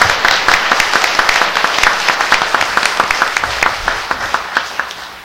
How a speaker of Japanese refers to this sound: これはもうすごいことでして、ちょっと皆さんの拍手いただきたいなと思います。